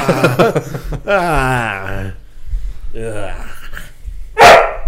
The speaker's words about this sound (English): put a bark button on your dog.